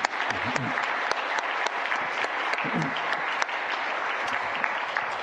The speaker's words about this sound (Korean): 감사합니다. 앵콜 하고 싶지만 시간상 자 우리 잘하셨습니다. 은혜 받았습니다. 우리 생각하시면 다시 한번 박수하겠습니다.